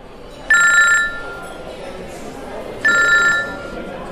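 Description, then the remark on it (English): A cell phone rings twice, two short bright electronic trills about two seconds apart, over a steady murmur of background noise. “Sorry, I must go now. I must take his call.”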